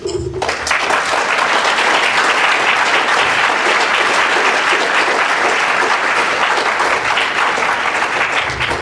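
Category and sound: crowd, audience clapping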